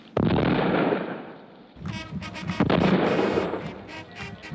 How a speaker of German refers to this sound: Festliches Glockengeläut und Böllerschüsse begleiten dieses historische Ereignis.